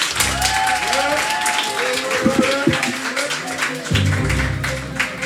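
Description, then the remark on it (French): Steady audience applause on the show Mic Up, voting for contestants, fills the whole stretch, a dense wash of many hands clapping at an even loudness, with faint voices and a few louder claps rising through it. “On va faire simple par applaudissement.”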